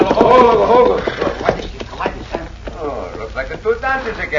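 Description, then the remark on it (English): Horses' hooves clip-clop in a steady, uneven rhythm as riders approach, clear, with men's voices speaking over the hoofbeats. “Get down off them horses.”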